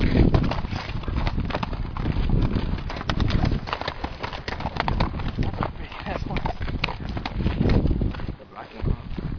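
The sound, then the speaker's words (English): Horse hooves clip-clop in a steady, fairly brisk rhythm, continuing throughout, with indistinct voices murmuring underneath. “Go meet the horses. Go right next to them.”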